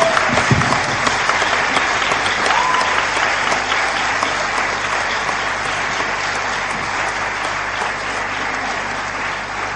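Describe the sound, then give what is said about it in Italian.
A large audience claps loudly and steadily for the full stretch, welcoming an Italian Christian music singer and her band onto the stage, a dense, sustained wash of applause with no speech over it. “e vi presento, vi invito a dare il vostro benvenuto con un fortissimo applauso,”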